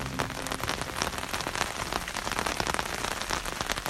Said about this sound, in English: Did you work out what that was? Well, the answer is rain. I recorded it in the Lake District in the northwest corner of England, which is the place that I grew up.